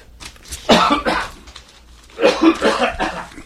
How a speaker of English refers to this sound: I was listening to Democracy Now! Today, right before the show, and Amy Goodman got a coughing fit. I think I caught it from her.